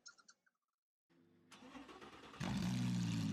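A couple of short chirps, then a car engine cranks and starts, settling into a steady rumble before revving up louder near the end, with no talking.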